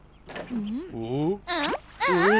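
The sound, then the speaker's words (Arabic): A small flea named Hobi cries and whimpers in high, wavering, quivering sobs, rising and falling in pitch with short breaks between bursts. “لا، هذا البرغوث يبكي لأي سبب أوسكار؟”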